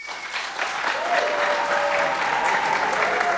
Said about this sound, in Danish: Ja, altså lad os lige høre en klapsalve lynhurtigt. Hvem er, må jeg høre en klapsalve på …?